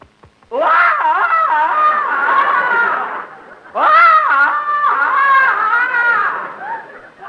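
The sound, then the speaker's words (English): A man lets out two long, loud warbling yells in a row, giving a Tarzan yell at a zoo, his voice breaking and wavering between pitches, the second yell fading into a strained, wobbly finish. “…, beat your chest and give the Tarzan yell.”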